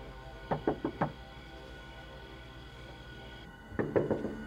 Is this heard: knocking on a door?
yes